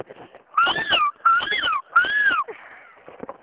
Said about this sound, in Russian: Сейчас кричат кошечки под окном.